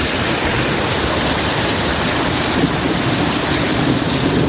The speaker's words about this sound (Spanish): Tremenda tromba de agua caída ayer en Madrid. Durante las últimas horas ha provocado serias dificultades a los madrileños.